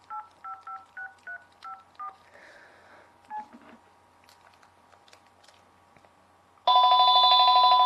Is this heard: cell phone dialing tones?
yes